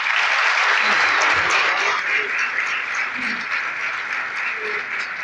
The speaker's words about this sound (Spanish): En agradecimiento personal y desde la institución, muchas gracias a todos ustedes, un aplauso para ustedes por estar acá.